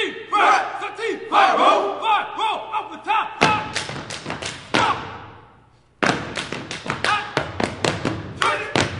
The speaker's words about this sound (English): Step is a decades-old tradition in black fraternities and sororities. It's part military drill, part tap dance, and it now has a heavy dose of hip-hop and a dash of attitude.